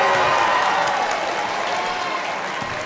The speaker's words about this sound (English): Senior for Bentworth, Aiden McMurray, comes off to some applause from the Bentworth fans as well.